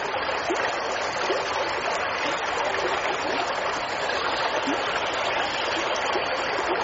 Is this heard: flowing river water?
yes